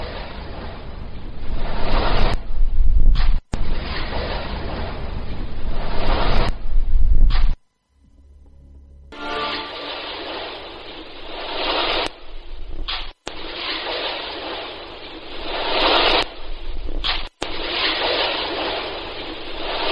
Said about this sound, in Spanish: Especie de como si alguien se cayera al agua, ¿no? Una especie... Yo entiendo algo de un suspiro, entiendo así por encima un poco. No sé, escuchaba un poco de agua, como de agua, y luego al final un chasquido.